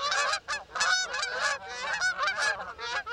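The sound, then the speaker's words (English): A flock of geese honks continuously, overlapping harsh nasal calls in a dense, loud chorus with no pauses, busy throughout. “Now, sit back, relax, and enjoy one of the most calming sounds in all of nature. Honking geese.”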